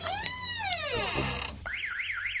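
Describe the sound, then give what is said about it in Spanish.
A loud electronic Securitas security alarm blares after someone enters a room, cycling through different tones: a rising-falling whoop, a steady high beep, then a fast warbling wail, with no talking. “He visto luz y he entrado y mira, han saltado las alarmas.”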